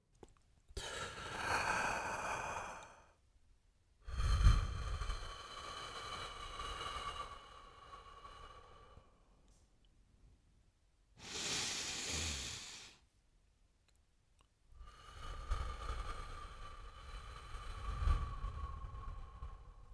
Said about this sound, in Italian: Oggi giocheremo con uno strumento che abbiamo tutti e che usiamo sempre, anche se non ce ne accorgiamo. Il respiro.